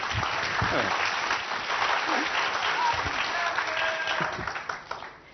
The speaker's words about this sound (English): Round of applause! That's not good enough, you can clap better.